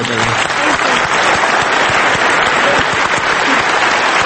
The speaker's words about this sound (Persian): حاضران در سالن افتتاحیه فستیوال چنان دچار احساسات شدند که ایستاده دقایقی جعفر پناهی را تشویق کردند و در میان جمعیت بپا خواسته میشد چهره‌های مشهور سینمای جهان چون برادران کوئن و جف بریجز هنرپیشه مشهور هالیوود را تشخیص داد.